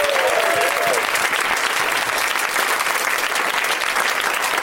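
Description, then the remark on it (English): A room full of people claps steadily for Roy Abramson, lead actor of the film Escape from Tomorrow, a dense, even wash of applause that holds at a consistent loud level for the whole stretch, with a brief tonal whistle-like sound near the start. “Let's have a round of applause, even though you still might not know who he is, for Roy Abramson, everybody.”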